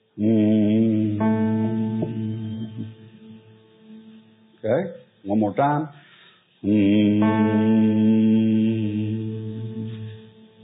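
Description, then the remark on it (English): A group hums one steady, sustained A note in unison, loud, then breaks off briefly for a short spoken line before the same droning hum resumes and slowly fades. “Now let's hum an A note again.”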